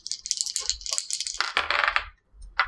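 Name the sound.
dice being rolled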